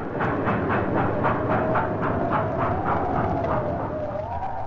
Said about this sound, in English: The blizzard grew worse. New York was cut off from the rest of the world. Trains lumbered to a standstill. None left the city, and few came in.